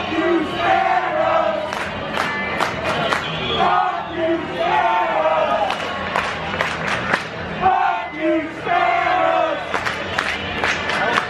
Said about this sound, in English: Chants broke out during the game. And fans were not yelling, "Save our Bolts."